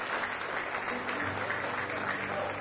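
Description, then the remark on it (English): A church audience claps together in praise of the Lord, a dense, steady wash of many hands applauding, with faint voices and a low musical hum underneath. “Give the Lord one more hand clap of praise tonight.”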